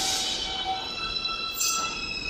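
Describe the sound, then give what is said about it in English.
A New York subway train's departure chime rings out as the train is about to leave the station, a sequence of three clear, steady high tones over the loud rumble and hiss of the train at the platform. “And you hear these three pure high tones.”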